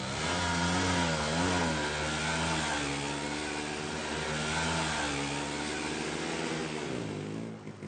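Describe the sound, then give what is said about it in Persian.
A motorcycle engine revs steadily, its pitch rising and falling through a few throttle changes, then holds a sustained drone as it pulls away with a passenger riding on the back. “کربلایی بغچه میبنده، بر میداره، در ماشینو میبنده، میره و سوار ترک موتور ستار میشه.”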